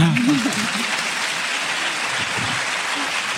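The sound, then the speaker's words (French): An audience applauds Dominique Hutin during a live France Inter broadcast at a book fair, a dense crackle of many hands clapping that holds at an even, fairly loud level throughout, with a voice briefly audible at the very start. “Il y en a qui ont très envie d'applaudir Dominique Hutin.”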